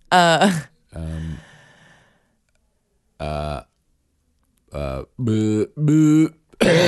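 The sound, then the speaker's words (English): A voice imitates a harsh, croaky cough and throat clearing: a handful of short, loud, strained vocal bursts with brief pauses between them. “It's the worst cough.”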